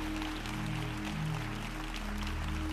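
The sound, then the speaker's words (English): A large crowd at a church service applauds steadily for people coming forward for prayer, a dense wash of clapping while sustained low organ or keyboard chords play underneath. “Will you give the people coming down a round of applause, everybody?”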